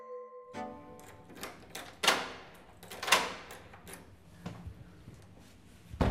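A heavy door is worked open with a series of clunks and scrapes, two louder thuds standing out, followed by a few lighter knocks. Close and fairly loud, with no talking.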